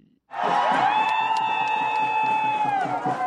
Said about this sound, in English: A group of Rwandan fans cheer up their team, Amavubi Ladies, in a hotly contested game between Rwanda and the Crested Cranes. The Ugandan women's soccer team at Stade do Kigali, Nyamirambo.